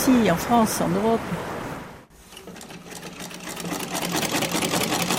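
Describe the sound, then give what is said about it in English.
A voice speaks briefly, then an old Victorian sewing machine runs steadily in the Atelier de Nîmes workshop, its needle hemming a pair of jeans with a rapid, even mechanical clatter that continues to the end. “puts the finishing touches to the hem of a pair of jeans using an old Victorian sewing machine.”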